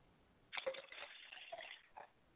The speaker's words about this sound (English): I pour libations to the east, and I say Ashe. I pour libations to the west, and I say Ashe.